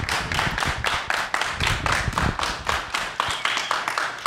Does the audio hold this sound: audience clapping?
yes